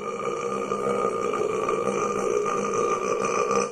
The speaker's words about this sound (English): It's 19 seconds of belch. Still keeps making me feel like I'm going to belch when I hear it. Like, he's running out of steam. He's running out of steam.